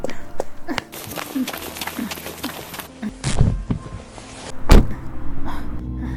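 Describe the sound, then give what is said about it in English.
Shuffling and clunks as a person is bundled into a car give way to a low car engine rumbling, then a single heavy car door slams shut, and the idling engine continues underneath. “No finesse, just fists and French curses, bundled into a car reeking of Gauloise and hate.”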